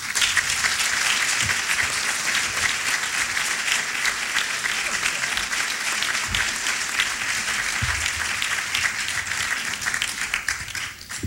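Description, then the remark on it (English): Sustained applause for Matt Drudge from a large audience at the press club in Washington. A dense, steady patter of many hands clapping at once holds for about eleven seconds before starting to thin out. “Applause for Matt Drudge in Washington at the press club.”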